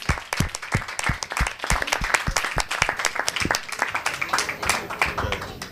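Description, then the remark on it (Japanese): A crowd at a church service applauds after a prayer to send people off, with dense, steady clapping that fills the whole stretch, many sharp hand claps overlapping into a continuous patter at a fairly even loudness, with a murmur of voices underneath. “拍手で送り出しましょう。”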